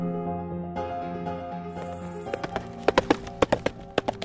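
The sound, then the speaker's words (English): Horse hooves clip-clopping in a steady, sharp rhythm at the Devon Horse Show, a fall horse competition in Devon, coming in partway through and growing louder, over a soft sustained musical tone. “And in Devon, the Devon Horse Show embraces a new season with the fall iteration of its biannual horse competition.”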